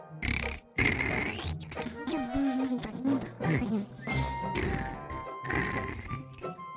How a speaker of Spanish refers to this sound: porque con estos ronquidos raya cualquier cosa.